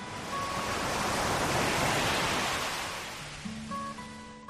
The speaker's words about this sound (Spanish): Puede que, piensas y recuerdas, para ti el mar suene así.